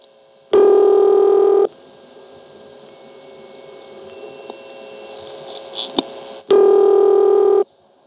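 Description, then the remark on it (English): Cycling telephone ringing-machine tones heard on the line in Cabot: a loud, buzzy one-second tone burst, a long stretch of faint steady hum with soft shifting tones, then the loud burst repeats about six seconds later. “I need to point out something we hear constantly in Cabot, at least post-1974 we hear this, and it's a series of tones that cycle over and over, having to do with the ringing machine.”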